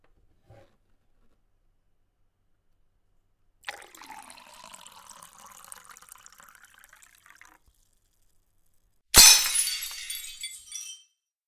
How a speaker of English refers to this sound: Oh no, I broke it. It's all over the carpet. I ruined it. My hands were trembling so much, and I just let the glass slip through my fingers.